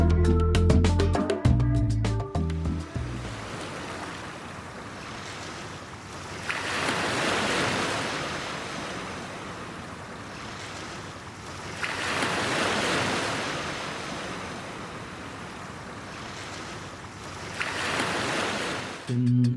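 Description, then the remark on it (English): Ocean waves wash onto the shore in slow, rolling surges every few seconds, each swelling into a broad hiss and then receding, after a brief burst of music at the start. “Down by the ocean we go.”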